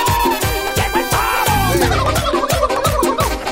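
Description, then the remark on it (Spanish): A turkey gobbles loudly, a rapid, warbling burst of throaty calls repeating over a few seconds with no one talking. “¡Llegó el pavo!”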